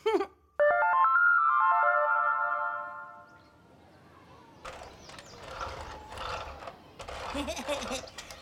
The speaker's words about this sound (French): Hé, hey, pompier Pruneau, est-ce que tu entends? Oui, pompier Kiwi, c'est l'alarme d'incendie. Il y a un feu quelque part.